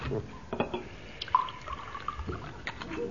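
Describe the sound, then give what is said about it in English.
Liquid is poured into a glass, a steady few-second gurgling trickle with small splashes and a faint ringing tone, and no voices over it. “Give me your glass, Mainwaring.”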